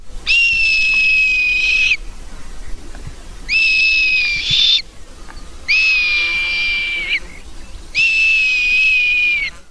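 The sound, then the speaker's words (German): A red kite calls four times in a row, each a long, high, piercing whistle with a slight quaver at the end, loud, separated by short pauses with no talking. “So klingt der Rotmilan.”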